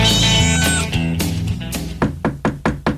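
A cat lets out a loud, drawn-out meow up close, followed by a quick run of sharp, evenly spaced thumps near the end.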